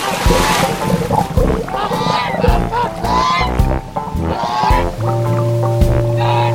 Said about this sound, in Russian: залезай в мою волшебную водяную лодку. Поедем тебя учить уму-разуму. Отдать швартовый.